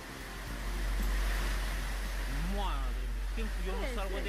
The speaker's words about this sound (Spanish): Este sonido corresponde a la granizada registrada ayer en Valdemorillo, donde cayeron 51 litros de agua.